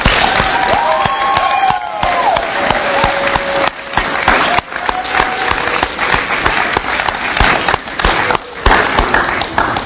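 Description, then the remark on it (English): Loud, sustained audience applause for both speakers: dense crackling claps fill the whole stretch, steady and unbroken, with a few faint whistles or cheers riding over the top. “Can we have another round of applause for both speakers?”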